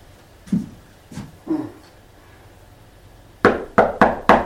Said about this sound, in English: She knocked again.